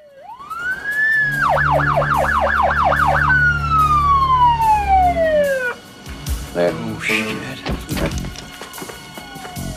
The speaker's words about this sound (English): Jackie sighs with relief hearing the sirens.